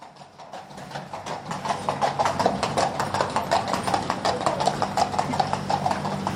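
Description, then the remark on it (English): A funeral cortege passes: a glass carriage bearing a coffin, drawn by two black Friesian horses with plumes on their heads, with a steady, rhythmic clip-clop of hooves, sharp regular clops over a low background rumble, with no talking. “Just pausing out of respect to a funeral cortege going past and the coffin being borne in a glass carriage drawn by two black Frisian horses with plumes on their heads and dad in flowers written alongside the coffin.”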